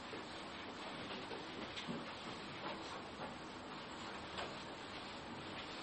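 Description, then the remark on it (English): A board being wiped with an eraser during a lesson: a steady, dry scrubbing hiss with faint back-and-forth strokes, fairly quiet, lasting throughout with no talking. “What if, we're going to have to erase this. Okay, we can erase this by now.”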